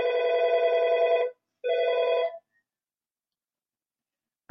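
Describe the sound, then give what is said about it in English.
A loud electronic telephone-style ringing: one long burst, a brief pause, then a shorter second burst before silence, with no one speaking. “Sorry about the ringing bells back here.”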